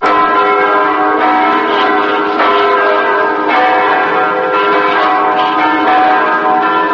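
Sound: church bells ringing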